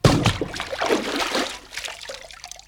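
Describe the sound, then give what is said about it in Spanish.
A sudden heavy splash into water, followed by a couple of seconds of sloshing and trickling as the water settles, moderately loud with no voices: someone, the Marquis of Carabas in a Puss in Boots tale, jumping headfirst into a river. “Pronto, pronto, quítate tu ropa y arrójate de cabeza al río.”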